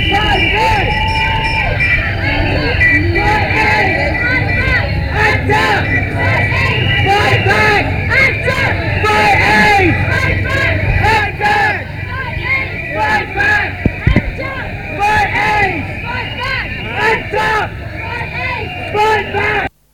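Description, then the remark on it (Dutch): A dense, loud crowd at a protest march on the Herengracht, with Act Up activists carrying a very large banner, roars continuously outdoors, many voices overlapping in shouts and chants over a steady low rumble, with no pauses for the full stretch. “En Act Up Paris heeft echt een heel groot spandoek en die maken ook ontzettend veel herrie.”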